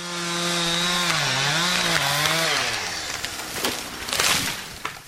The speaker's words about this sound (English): Workers use a chainsaw to thin the trees around one of the homes in Carriage Hills.